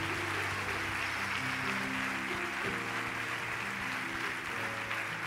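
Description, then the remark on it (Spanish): A crowd claps for the Lord Jesus, continuously in a dense, steady wash of applause, while sustained keyboard chords play underneath, shifting pitch a couple of times; no one speaks. “Vamos a dar un fuerte aplauso al Señor Jesús.”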